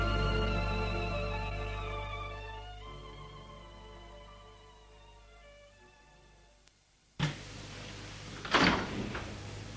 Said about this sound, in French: lendemain matin, Jean-André dort lorsqu'il a été réveillé par la porte de la chambre qui s'est ouverte et voit arriver sur lui son frère en robe de chambre bleue.